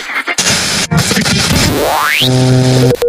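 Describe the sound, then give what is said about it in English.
Loud, harsh radio static crackles and hisses, then a tone sweeps steeply upward before giving way to a steady stack of buzzing tuned tones, like a dial being spun across stations. “Radio tuners.”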